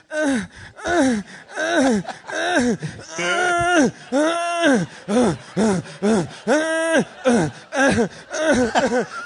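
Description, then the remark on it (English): A voice imitates a secret agent character's heavy, rhythmic panting from a movie's slow-motion scene, a steady series of loud, breathy gasps with rising and falling whimpering tones, repeated over several seconds without any words. “And the only thing you hear is his heartbeat and his aggressively, increasingly more and more sexual panting.”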